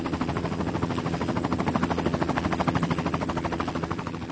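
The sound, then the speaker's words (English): A helicopter flies on a short ride over the city of London, its rotor blades chopping in a fast, steady rhythmic thump over a constant engine whine, loud and continuous throughout. “They took Stephen on a short helicopter ride over the city of London.”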